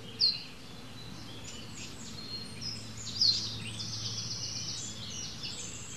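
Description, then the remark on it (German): High, rapid song of a wren with bright chirps and trilled bursts, moderately quiet over a low outdoor rumble, with a great tit calling intermittently in the background. “Der ist so klein, der Zaunkönig, der muss natürlich laut scheppern, dass man ihn zumindest hört, oder?”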